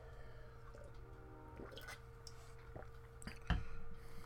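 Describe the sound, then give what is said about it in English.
A preacher quietly sips water during a Bible sermon: soft, wet little slurps and a gulp, faint, with a small clunk near the end, over a low steady hum and no talking. “Let me get some water.”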